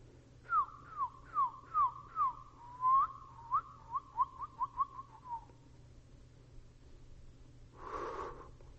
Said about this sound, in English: The little bird turned his head, he's looking around like this. And he looked over at me. I kid you not, this bird looked at me, and this bird began to sing to me. This bird began to talk to me.